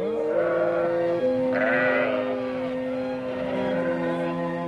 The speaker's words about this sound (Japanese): あの小さいのが困っているな。すぐ行くぞ、チビちゃん。お前をここに置き去りにはしないよ。お前の鳴き声が聞こえたからね。私はいつでも羊たちを助けに行くつもりだよ。